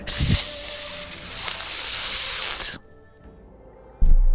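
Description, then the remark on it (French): As a breathing exercise after a deep inhale, a person makes a long, steady, loud hissing sound like a snake for nearly three seconds, then it cuts off into quiet with a soft breath at the end. “Inspirez, gardez un peu, inspirez encore un peu plus, prenez un peu plus, et faisons le son du serpent.”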